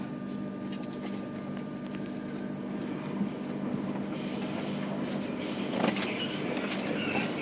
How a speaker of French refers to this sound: Monsieur, notre TGV va partir. Prenez garde à la fermeture automatique des portes.